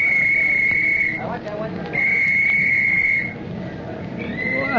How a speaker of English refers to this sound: Uh-huh. We're all organized. Soon as I blow my whistle.